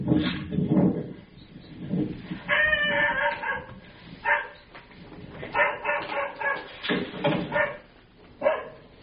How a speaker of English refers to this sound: Here's the second dog barking. That's not the first one.